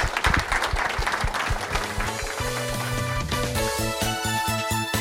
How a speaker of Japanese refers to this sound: 皆様どうぞ大きな拍手をお願いいたします。